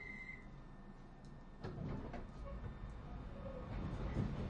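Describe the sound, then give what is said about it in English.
A steady low rumble of a stationary train at a platform, ready to depart for Queen's Park, with a faint high electrical whine early on, then a few clanks and door-like thuds, and no one speaking. “This train is ready to leave. Please mind the doors. Stand clear of the doors.”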